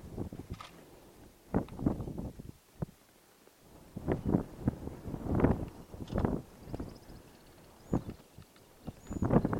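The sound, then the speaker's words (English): A hippopotamus, out of the water and still wet, grazes on grass in the Serengeti, tearing and munching it in a steady series of crunchy, uneven bursts, with light wind noise outdoors and no voices. “Grazing the grass like a cow.”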